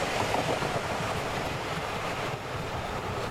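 A subway train rumbles with a steady, dense roar that holds at an even level throughout, fairly loud, with no voices.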